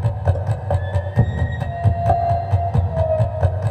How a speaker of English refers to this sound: Tomorrow on Weekend Edition, a man who makes scary music on an instrument he calls the Apprehension Engine. We're hearing it right now.